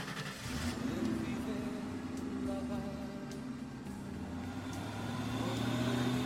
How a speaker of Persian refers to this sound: درها بسته میشه، شیشه ها بالا و مرسدس حرکت میکنه.